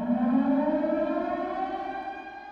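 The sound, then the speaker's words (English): The THX deep note: a loud, sustained siren-like wail of many layered tones, gliding slowly in pitch and holding steady for a few seconds before easing off slightly, with no voices present. “Some feel like the beginning sounds like a plane in a nosedive, or a siren alerting people of danger.”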